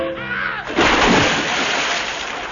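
Sea water, recorded at sea, splashes loudly in a sudden burst, then keeps washing and sloshing for a couple of seconds, preceded by a brief tonal voice-like sound.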